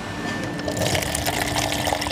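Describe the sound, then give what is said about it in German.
Kombucha pours steadily from a tap into two glasses, two kombuchas at different stages of fermentation, a continuous bubbling, splashing stream of liquid filling up over a couple of seconds, with no talking. “Jetzt habe ich zwei Gläser und wir werden zapfen.”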